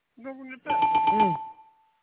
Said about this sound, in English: Listen, we're gonna give that a good goddamn. We're gonna ring the bell.